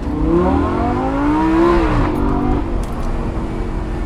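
sports car engine revving

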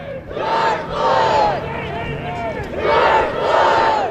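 protest crowd chanting

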